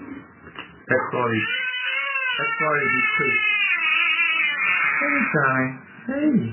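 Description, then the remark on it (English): A 4-day-old baby, lying face down across a seated chiropractor's lap as he pushes his hand into her spine and cracks her back, cries in sustained, high-pitched wails with quavering harmonics, breaking briefly between breaths before resuming loudly, with a short adult voice at the start. “Now, to set the scene, what you just heard, a chiropractor was sitting on a chair, 4-day-old baby lying across his lap, face down, and the chiropractor pushed his hand into the baby's spine and cracked the baby's back.”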